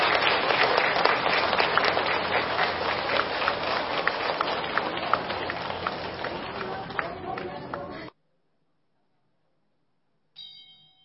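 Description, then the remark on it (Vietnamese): A crowd claps steadily for about eight seconds, a dense, sustained wash of applause welcoming a Buddhist venerable lecturer for a Dharma talk at the 72nd one-day retreat, stopping abruptly, followed by silence and a brief ringing tone. “xin đầu tràng cho một tràng pháo tay để cung đón đại đức giảng sư”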